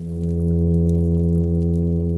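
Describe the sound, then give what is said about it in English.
A continuous, steady low-pitched drone with strong harmonics: the underwater hum advertisement call a male plainfin midshipman fish makes with its swim bladder from its nest under a rocky shelter to attract females, recorded by a hydrophone by the nest. It holds an unbroken tone at moderate loudness with no other sounds. “And from that rocky shelter, they produce that hum advertisement call to attract females to their nest.”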